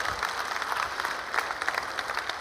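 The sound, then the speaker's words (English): A church audience clapping their hands together in praise of Jesus, a dense, steady patter of many overlapping claps that holds at an even, moderate loudness throughout, with no voices standing out. “Just give Jesus a hand clap.”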